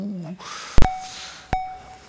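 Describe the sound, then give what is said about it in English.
An alarm, set off by a failed attempt to crack a safe during a bank robbery, goes off in repeated bursts, each opening with a sharp click followed by a steady, mid-pitched electronic tone, recurring about every three-quarters of a second after a brief vocal sound. “Okay, an alarm here.”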